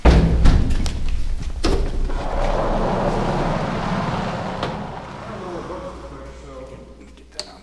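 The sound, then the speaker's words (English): Heavy airlock doors shut in a long man-made cave tunnel with a deep, booming thud that echoes, followed by rumbling reverberation, a few dull knocks and a sharp metallic clank near the end. “We make our way down a long man-made tunnel and through another series of big airlock doors.”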